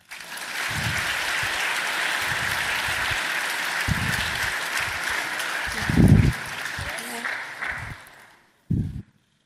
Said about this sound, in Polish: Chcielibyśmy teraz oddać głos panu marszałkowi. Prosimy o wielkie brawa.